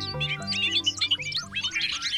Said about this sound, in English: bird note.